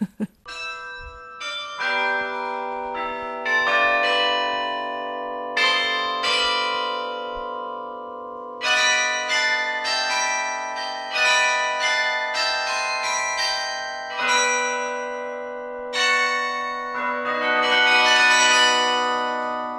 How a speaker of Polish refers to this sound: Czy pani zdaniem, takie jest właściwie moje skojarzenie, właśnie te karilony to jest dźwięk Gdańska? Oj tak, tak, to jest identyfikacja tego miasta.